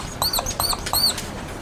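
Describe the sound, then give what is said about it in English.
Three quick, high-pitched squeaks from a red marker dragged across a surface, each a short chirpy stroke in an even rhythm, fairly clear against a faint hiss. “Squeaky red marker.”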